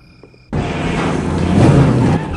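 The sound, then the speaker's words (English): A car engine with two people aboard suddenly roars up after a brief quiet moment as they speed off, staying loud as it accelerates hard, the rumble building and sustaining throughout. “She takes a drag and they speed off.”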